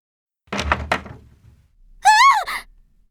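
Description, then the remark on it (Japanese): A locked room door is quietly opened with a spare key, three quick, dull thunks, followed after a short pause by a brief high-pitched rising and falling squeal, like a startled cry. “そっとドアを開ける俺。”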